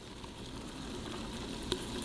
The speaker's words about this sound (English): All right, baby, I'm gonna release. You can literally hear the fruit sizzling. Listen.